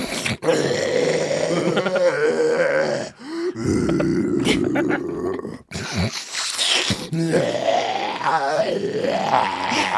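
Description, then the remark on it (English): A voice imitates a man's deep, rattling snoring that breaks into choking gurgles and strained grunts, loud, running nearly continuously with a couple of brief gasping pauses. “it'll be snoring, like deep, crazy snoring. And then it'll be like, this is the impression.”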